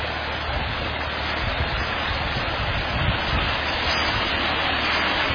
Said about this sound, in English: Another wonderful waterfall. Wonderful waterfall.